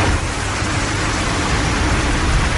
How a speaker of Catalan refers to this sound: I també li he de dir que un altre que m'ha fet molta gràcia, que és so de pluja, però aquest és molt específic. És so de pluja mentre esperes sota la marquesina de la parada del bus.